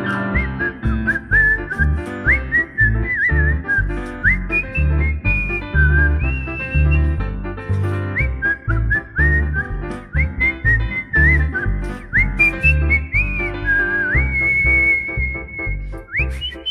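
A bright whistled melody rides over a full band accompaniment, gliding between sustained high notes in a lively, bouncy tune that continues steadily throughout.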